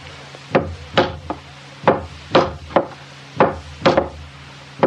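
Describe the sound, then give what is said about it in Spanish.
Hammer blows drive nails into wooden boards, nailing two missing boards onto a boat being repaired, in a steady, irregular series of about ten sharp thwacks, each with a brief woody ring, with no talking. “Vamos a clavetearle dos tablas que faltan por aquí nomás.”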